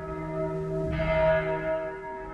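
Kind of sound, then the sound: signal or alarm, church bells chiming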